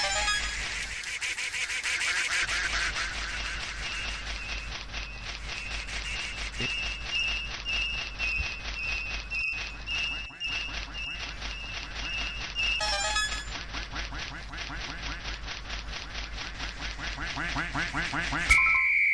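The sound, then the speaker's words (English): Cartoonish video game duck quacks in a catch-the-duck minigame repeat rapidly and steadily for the whole stretch, fairly loud, layered over a busy electronic game soundtrack with a sustained tone. “Catch the duck.”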